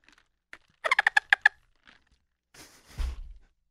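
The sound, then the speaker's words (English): A water bottle squeaks while someone drinks from it: a quick run of about six high, chirpy, dolphin-like squeals in a row, made by the bottle rather than the drinker, followed by a breathy rushing noise and a low thud. “My voice is kind of gnarly, which I apologize for, but listen to this water bottle when I take a drink.”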